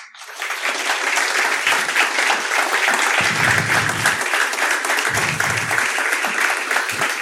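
A crowd applauds steadily for a musician invited on stage after her composition was played, dense clapping at an even, loud level for several seconds with no voices standing out, just continuous hand claps blending into a thick wash.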